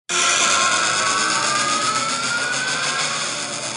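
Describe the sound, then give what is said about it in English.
An imitated pod racer engine from Star Wars: a loud, steady roaring whine that holds for about four seconds, its high tone gliding slowly upward, with no talking. “It's a pod racer.”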